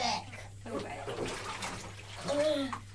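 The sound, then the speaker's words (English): Water sloshes and splashes in a bathtub, a steady wet churning with brief bursts, while a child's voice chatters over it. “please don't splash too much. Splotted with slugs and worms. If you splash, I can't tell what you're saying.”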